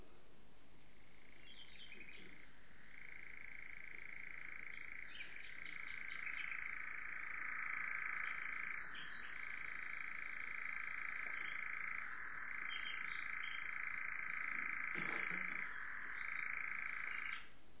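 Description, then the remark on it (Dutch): A European nightjar churrs at dusk in one long, unbroken mechanical trill, steady and fairly loud, pulsing slightly in pitch, with no voices over it. “Het blijft de hele dag bij zitten, want het is een nachtzwaluw.”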